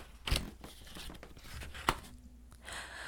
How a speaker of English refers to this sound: Let's see, let me draw a little paper from my jar here.